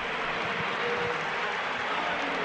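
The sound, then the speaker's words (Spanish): The crowd at Estadio Santiago Bernabéu gives a sustained ovation to Keylor Navas as he says goodbye, a dense, steady roar of cheering and clapping that holds at an even, loud level throughout without any clear voices standing out. “Mira, oímos la ovación a Keylor.”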